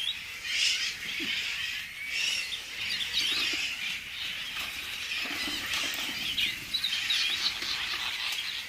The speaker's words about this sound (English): So we just kind of quietly opened their doors and let them out. And almost immediately the birds started singing and foraging, you know, looking for food, trying things out in their new habitat.